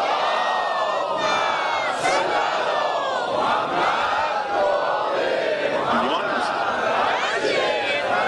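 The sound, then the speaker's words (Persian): A large crowd chants a salawat blessing for Imam Reza in unison, many voices merging into a loud, continuous roar that swells and rolls on for several seconds with no pauses. “بعد دوم، من خودم تنهایی اگه برای امام رضا صلوات بفرستم صدام از شما بلندتر، یه صلوات برای امام رضا بفرستید.”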